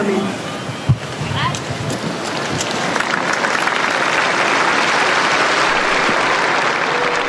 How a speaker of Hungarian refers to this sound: Ma sem maradt el a Szentpéter téren a szokásos taps, amellyel megköszönik Ferenc pápának az áldását, az ő tanítását.